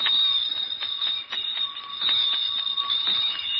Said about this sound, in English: And now this next bell is one you often hear on the streets around Christmas time. Listen.